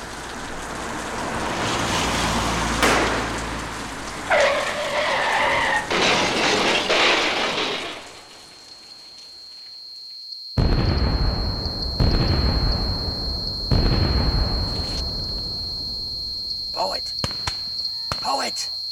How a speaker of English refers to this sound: Poet Wilson finds himself in another predicament. One that has led to a terrible car crash.